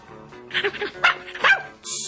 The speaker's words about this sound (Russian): Щенок радостно завизжал и бросился лизать доктору руки.